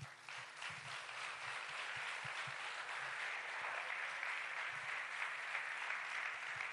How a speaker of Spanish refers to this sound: Recibe un fuerte aplauso.